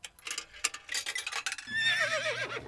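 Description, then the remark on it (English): A coin-operated horse ride named Binky, started by putting in a nickel, begins: a quick run of mechanical clicks and clatter, then a steady motor hum with a warbling, whinny-like electronic tone on top, fairly loud. “The sign says put in a nickel and take a ride on Binky the horse.”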